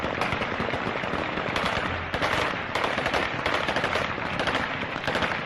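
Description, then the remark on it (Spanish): Dense, continuous bursts of automatic gunfire crackle nonstop, many shots overlapping in rapid rattling volleys with echoing reports, fired into the air by the population or the Taliban in the streets of Kabul, Afghanistan, celebrating the departure of US troops. “Un clásico es el sonido de los disparos al aire por parte de la población o los talibanes”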